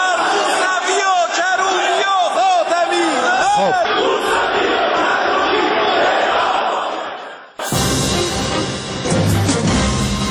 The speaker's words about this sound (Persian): غلامعلی حداد عادل در نطق پیش از دستورش اظهارات تندی را علیه رهبران مخالفان بیان می‌کند و به دنبالش جمع زیادی از نمایندگان حاضر فریاد مرگ بر خاتمی، موسوی و کروبی سر می‌دهند و برخی نیز خواستار اعدام آنها می‌شوند.